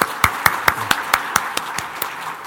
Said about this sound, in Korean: 예, 박수로 맞아주십시오.